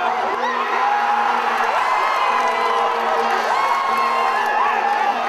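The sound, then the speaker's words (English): A large stadium crowd at a football match between South Africa and Mexico, still goalless after half-time, roars continuously, a dense wash of cheering and whooping with steady, unbroken loudness and scattered shouts rising above the din for the whole stretch. “After half-time, it's still nil-nil, and the crowd's sense of anticipation is at fever pitch.”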